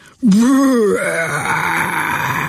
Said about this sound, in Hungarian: Bődült el valami alig egy méterre tőlük a fák alatt, majd hirtelen fülsiketítő csikorgásba váltott. Azt már csak messziről hallották Helkáék, hogy hangos buffonásokra váltott a hang, mintha mély bödörre csapkodnák a fedelét.